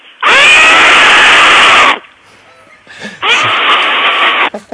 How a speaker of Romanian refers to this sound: ești la geam și țipă cât poți tu. Țip. Hai.